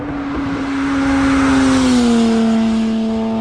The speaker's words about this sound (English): it's a nice little sound. Yeah. It's a very good sounding V6.